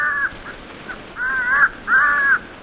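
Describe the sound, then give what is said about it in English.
A recorded crow distress call played from a tape near a roost of thousands of crows in trees beside a factory: harsh, drawn-out caws, three loud calls with short pauses between, the second and third longer and strained, against a faint background hiss. “plays a recording of a crow distress call”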